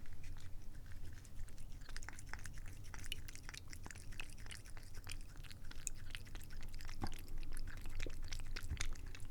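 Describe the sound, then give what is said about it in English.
A cat laps steadily at a stream of water poured from a jug into a kitty cup, quick wet clicks and smacks repeating over a constant low trickle and splash, with no voices. “And she tries to drink the stream as it flows out of the jug.”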